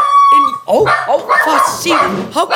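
dog barking and howling

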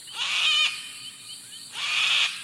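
sulfur-crested cockatoo call

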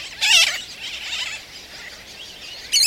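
tern colony calling

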